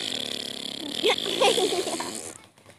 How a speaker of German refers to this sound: Jetzt ist ihr ein Motorrad vorbeigefahren. Es hat, das pupst die ganze Zeit, das Motorrad. Es macht die ganze Zeit.